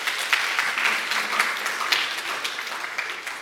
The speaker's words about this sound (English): We can give them a round of applause if you want.